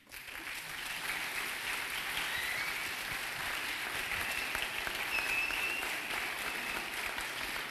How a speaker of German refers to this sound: Danke. Dankeschön. Das tut wirklich gut. Danke für den warmen Applaus.